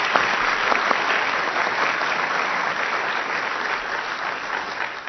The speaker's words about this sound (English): So thanks to both our debaters. A final round of applause for both of them for their excellent debate tonight.